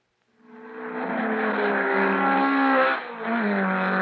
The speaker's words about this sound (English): Hear that? That's power. The power of the new high-performance engines, now under the hoods of many of Detroit's sportier models.